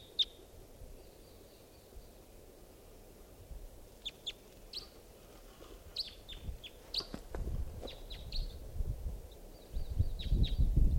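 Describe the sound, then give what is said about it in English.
A lone wild bird in flight gives a series of short, high, thin chirps in irregular bursts, faint over a steady low rumble that grows louder and more buffeted near the end. “So, pointing out the wild bird. In flight. Lone bird.”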